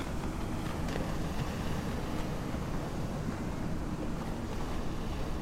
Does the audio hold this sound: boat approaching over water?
yes